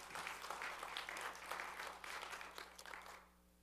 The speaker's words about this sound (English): Give Jesus the glory if you're going to clap.